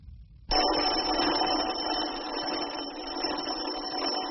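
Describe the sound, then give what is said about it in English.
An electric doorbell rings insistently at a house in Aberdeen, waking a man from his bed: a harsh, buzzing clatter that starts abruptly after a moment of quiet and keeps going without a break, loud and steady. “In a house in Aberdeen, a man is aroused from his bed by an insistent ringing at his doorbell.”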